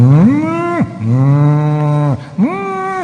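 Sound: cows mooing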